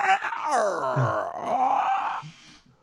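creaking chair

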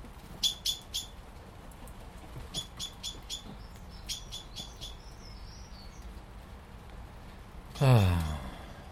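blackbird chirping

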